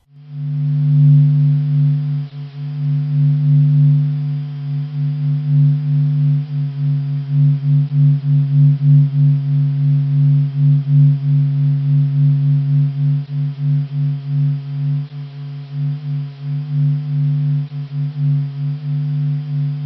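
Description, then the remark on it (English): A steady, eerie electronic hum drones low and continuous, with gentle pulsing swells and faint higher overtones shimmering above: the sun's vibration, made audible from solar radio signals processed by Stanford University and UC Berkeley physicists, rising and falling every 5 minutes; no voices. “physicists have processed radio signals from the sun and produced audio files. The sun vibrates with a hum that goes up and down every 5 minutes.”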